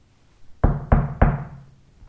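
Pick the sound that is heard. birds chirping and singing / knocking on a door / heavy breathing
knocking on a door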